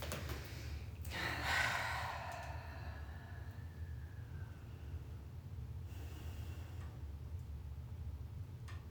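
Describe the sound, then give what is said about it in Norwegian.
A slow, deep breath rushes audibly in and out, followed by a long stretch of near-silence over a low steady hum. A much fainter breath may come near the end. No one speaks. “Ok, jeg må puste oss ned og kjenne beina på gulvet.”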